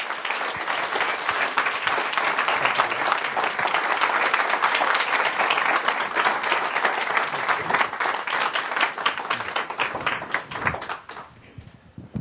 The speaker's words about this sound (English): So we thank you. Let's give them a nice round warm of applause.